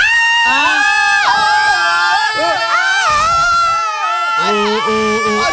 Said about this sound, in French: Ordonnez-nous de crier. Crier.